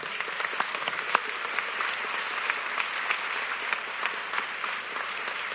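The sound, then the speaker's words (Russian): Steady applause from an audience thanking one another, dense overlapping claps forming a continuous bright patter at even loudness throughout, with no voices standing out. “Давайте поблагодарим друг друга аплодисментами.”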